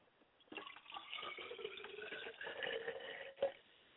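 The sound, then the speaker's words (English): Liquid is poured out steadily as a libation to the ancestors for about three seconds, splashing and trickling, ending with a brief louder splash before a quiet tail. “I'd like to pour libation to Akamare.”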